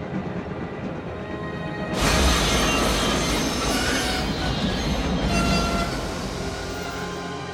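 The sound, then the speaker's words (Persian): A train rumbles steadily along the rails, then loud grinding brakes and squealing wheels cut in as it slows to a stop for a flock of sheep, with the harsh metallic noise filling the rest. “قطار واستاده. چه خبر شده؟”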